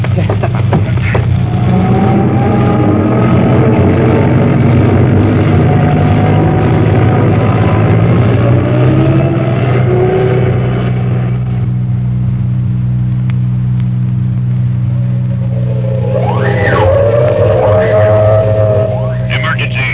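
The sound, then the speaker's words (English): A milk truck's heavy engine rumbles steadily, then revs with rising pitch near the end as it pulls away, with muffled voices underneath. “Now, get out of the truck.”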